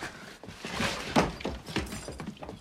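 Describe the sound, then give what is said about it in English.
A vinyl record and glass shatter in a loud burst of cracking and clattering, with one sharp crash standing out amid scattered smaller breaks and no voices. “Now, she slowly picks up a broken shard of record that's lying next to the shattered black and white photograph of her father.”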